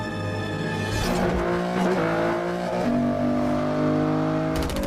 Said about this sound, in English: Two powerful cars speed along a tunnel which runs along the coast.